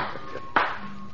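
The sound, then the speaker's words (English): One sharp hand clap, made to summon a servant, rings out, a brief crisp burst standing out against a quiet, steady background hum, with no voices. “When I return to Paris, where we ring for a servant instead of clapping the hands, I shall be...”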